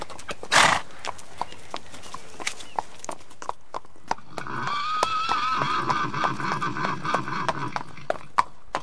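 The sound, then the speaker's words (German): Steady clip-clop of horse hooves in an even rhythm throughout, joined midway by a loud, drawn-out whinny that rises and wavers before the hoofbeats carry on alone, at the 8th horse festival in the Gartenträume park in the centre of Aschersleben. “Sechzig Jahre Pferdesport in Aschersleben. In Aschersleben findet das 8. Pferdefestival statt.”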